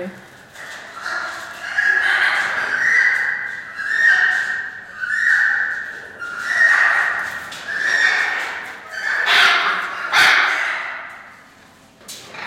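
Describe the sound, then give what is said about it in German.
An animal mating call: a loud series of about six rhythmic, high-pitched, wavering cries, each lasting a second or two, repeated steadily with short gaps and no talking. “Man beobachtet es halt sehr selten. Aber man geht eigentlich davon aus, dass das eine Kopulation kann sein kann.”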